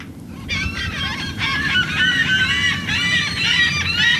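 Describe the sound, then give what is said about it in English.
A dense chorus of seagulls and pelicans calls continuously, many overlapping squawks and cries from flocks hovering nearby at the edge of a wide channel flanked by thick mangroves, a few miles from an airport, over a low rumble of wind and water. “Flocks of pelicans and seagulls hover nearby as the team unloads the yellow survey boat from its trailer.”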